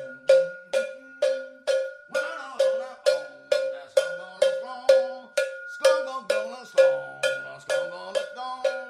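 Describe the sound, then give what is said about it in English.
A cowbell clanks in a steady, even beat, over two dozen bright metallic hits, alone at first and then joined by the rest of a rock band playing underneath. “rocking it with the cowbell.”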